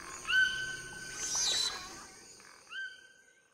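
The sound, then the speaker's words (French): Humid tropical forest ambience in the Amazon on a very hot day: layered animal and bird calls, with sustained high whistling tones and a brief rising call near the end over a soft, steady wash of background noise. “L'air pesant et chargé d'humidité vibre des sons de la forêt.”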